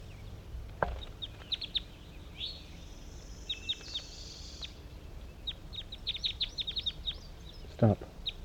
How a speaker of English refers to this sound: start recording one final sample of these birds before I pack up the net site on the hillside.